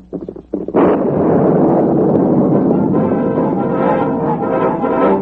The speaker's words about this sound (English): The explosion did all the Lone Ranger hoped it would. For the time being, at least, the swamp was destroyed.